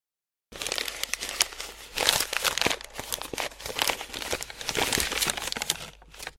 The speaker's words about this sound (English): Then Mother said, "Now, open your presents." Roberta happily unwrapped her presents.